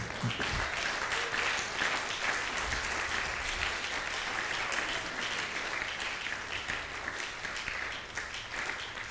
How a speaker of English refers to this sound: I think you must clap.